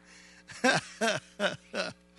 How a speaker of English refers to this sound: And it was really good, but it was a taco bake. You ever try to preach and burp tacos at the same time? It's a little bit, sometimes, you know, I'm sorry.